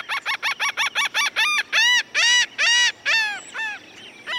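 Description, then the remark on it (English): A laughing gull calls in a loud, nasal series, starting with quick short notes that stretch into longer, drawn-out cries, clear with no voices. “Coastlines almost always have some gulls, like this laughing gull.”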